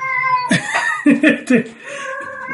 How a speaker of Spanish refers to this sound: Pero bueno, ahí tenemos a Leia, que está un poco alterada, la gata. Leia, cállate.